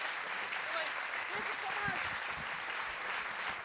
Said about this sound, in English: Thank you for coming! Keep cheering, because I like cheering when I'm talking. Thank you!